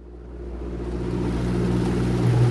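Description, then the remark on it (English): A motorboat engine drones steadily as it crosses steel-grey Arctic waters off Greenland, 190 miles inside the Arctic, steering past icebergs beneath a gloomy sky, its low harmonic hum rising gradually in loudness and pitch as the boat powers ahead, with a broad wash of water noise beneath. “carving a path across the ocean. He carefully steers past an iceberg.”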